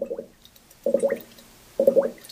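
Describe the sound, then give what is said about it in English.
Regular gurgling bubbles from a 10-gallon batch of red ale fermenting, American ale yeast turning barley sugars into alcohol and carbon dioxide; an airlock burps the gas in three evenly spaced, wet glugs about a second apart, clear with no voices. “The regular rhythmic burping giving off by the process of beer fermentation means it's correctly fermenting.”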